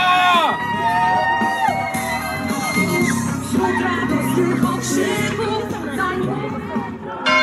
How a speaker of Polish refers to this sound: Witamy Ostrów, witamy Ostrzeszów. Dobrze, że jesteście, wielkie brawa!